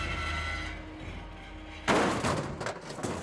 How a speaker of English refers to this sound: Something heavy landed on the roof of the car, causing both the brothers to yell in alarm.